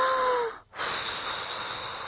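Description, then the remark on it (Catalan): A voice imitates a wolf blowing hard at a house to knock it down: a forceful breathy rush of air, a brief pause to inhale, then a second long, steady hissing blow with no words. “I el llop va bufar.”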